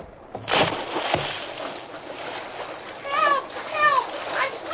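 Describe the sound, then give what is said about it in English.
Two heavy splashes as a man plunges into a stream, followed by steady churning and sloshing as he swims with long, powerful strokes against a strong current toward boys in the water, with a couple of shouting voices rising over it. “the Lone Ranger had entered the stream above the position of the boys in the water, he had to fight the strong current”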